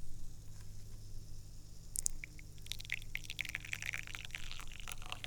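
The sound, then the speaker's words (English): A faint trickle of tea, the first pour into a tiny, brand-new tasting cup, starting after a short pause and running steadily with light splashy patter over a low background hum. “The first tea pour into the tiny cup.”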